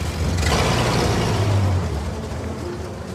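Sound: car driving away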